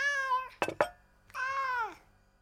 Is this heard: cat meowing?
yes